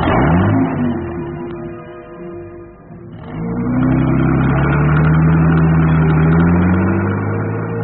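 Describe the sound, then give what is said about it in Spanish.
A car engine turns over and idles with a low rumble, then revs up strongly as the car pulls away down a dark alley carrying a prisoner, its steady mid-pitched drone rising and holding loud. “Custodiando al prisionero, Calimán aborda el auto y Tataque lo pone en marcha.”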